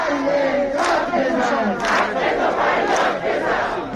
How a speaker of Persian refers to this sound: تجمع اعتراض باز هم ادامه دارد. تجمع اعتراض باز هم ادامه دارد. و شعار معلمان در تبریز. معلم داد بزن، حق تو فریاد بزن.